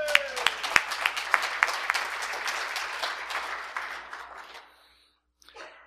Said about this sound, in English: So I think let's give ourselves, all of you, a round of applause.